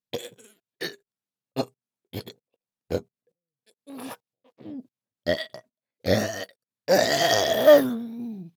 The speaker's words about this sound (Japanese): 脇で視覚と嗅覚奪われた上に、私のゲップで嗅覚に攻撃をお見舞いしちゃいますから。